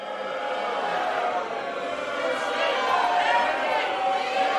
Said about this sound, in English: A packed gallery full of civil union supporters listened as McNulty pronounced the bill dead. The crowd began booing and chanting, "Shame on you."